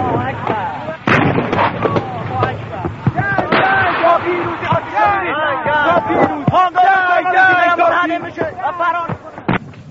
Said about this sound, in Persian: دقیقه به دقیقه فریاد تکبیر بچه ها به نشانه پیروزی بلند می شود.